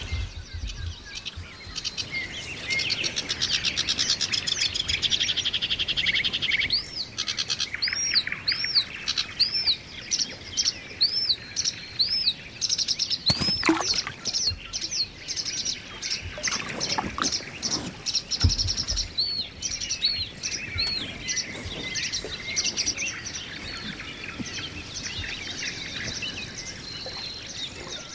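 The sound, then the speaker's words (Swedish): High-pitched, repeated peeping calls from seven goldeneye ducklings swimming calmly in a group with their mother in front of canoes, arriving in quick rising chirps over a steady outdoor hiss on open water, with one brief louder splash or bump midway. “7 stycken knipungar är det, va? Som ligger framför oss i en grupp med sin mamma.”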